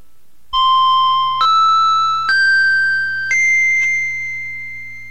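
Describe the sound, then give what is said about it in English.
The opening chimes of a hypnosis narration: a sequence of four bright, ringing chime tones rising step by step in pitch, each sustained and overlapping, over a low steady hum, fading gently after the last note. “After you hear the opening chimes, you will enter into deep hypnosis within 30 seconds, or if you prefer, 60 seconds.”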